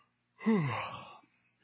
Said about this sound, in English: When you come to church on Sunday morning and you hear a passage and you're like, I've heard this 100 times. You start to yawn.